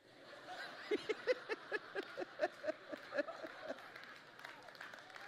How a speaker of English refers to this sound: The dads are clapping. I love it.